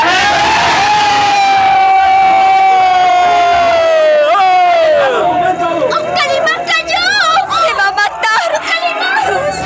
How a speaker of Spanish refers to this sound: Y un grito ensordecedor brota de las gargantas de los marinos.